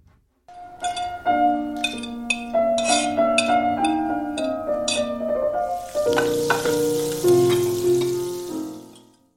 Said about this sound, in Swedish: Vad skönt det är när man hör de här besticken skrapa i tallriken där. Yummy.